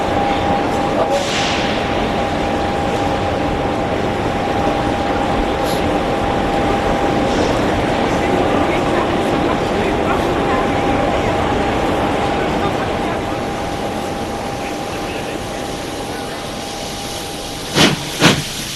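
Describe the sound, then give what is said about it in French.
A train with compartments like those of old trains rumbles steadily as it slowly pulls out of the station, with a broad, continuous roar, a faint steady tone and occasional hissing, before a couple of sharp clanks near the end as it gets under way. “Le train se met en route petit à petit. Sort de la gare.”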